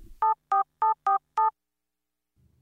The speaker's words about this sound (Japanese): あんたいきなりどこに電話してんだよ。まさかひょっとして。 アトリエさくらのディレクターさんに連絡してこのインタビューの台本を修正してもらおうかなって。